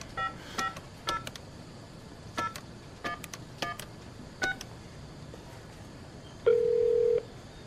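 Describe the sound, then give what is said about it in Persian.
A series of short electronic keypad tones as a police officer dials a phone number printed on a card, about a dozen quick beeps in irregular clusters, followed by a longer steady tone near the end. No one speaks. “بیا این شمارهشون روی کارت نوشته زنگ بزن ببین چی بهت میگن.”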